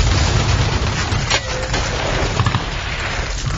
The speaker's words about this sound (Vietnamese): Vừa lúc đó, mấy loạt súng bắn ào ào tới.